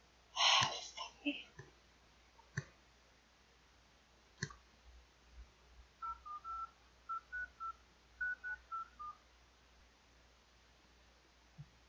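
A rapid series of short, clear telephone keypad tones as a radio host dials a phone from the studio booth, about a dozen beeps in quick uneven bursts, preceded by a few sharp clicks and a breathy noise at the microphone.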